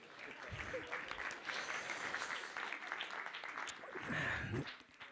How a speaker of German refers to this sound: Herzlichen Glückwunsch. Ein Applaus.